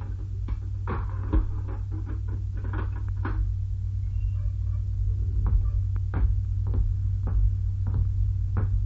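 A heavy prison cell door being unlocked and opened, with a quick series of metallic clanks and rattles over a constant low mechanical hum, moderately loud.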